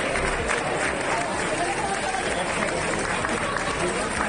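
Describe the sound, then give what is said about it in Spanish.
Store workers at the IKEA store in Alfafar clap steadily for the day's first customers as it reopens at 11 in the morning, six weeks after the floods, a dense, continuous patter of many hands at an even loudness, with crowd voices blended underneath throughout. “Son los trabajadores aplaudiendo a los primeros clientes del día de hoy.”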